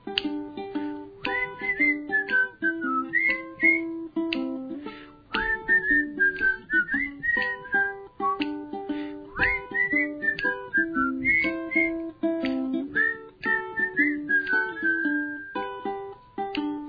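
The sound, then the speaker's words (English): A person whistles a lilting melody with gliding, wavering notes, carried over steady instrumental backing music that keeps a regular rhythm throughout. “Now some might say she's been smoking, but really she was just dreaming, whistling out the sky with her God by her side.”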